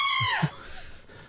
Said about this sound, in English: Now the goat. Now the goat goes up a little louder.